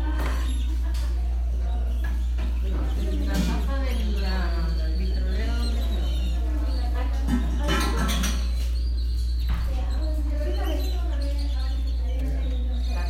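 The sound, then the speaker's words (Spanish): Many birds sing and chirp at once, a busy, overlapping chorus of warbling, whistled notes that carries on throughout, over a steady low hum, at a hacienda called José's in General Cepeda. “Y esos sonidos preciosos de puras aves que llegan aquí.”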